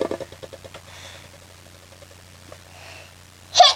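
A single sharp sneeze bursts out near the end, loud against a quiet backdrop of low, steady hum and faint rustling.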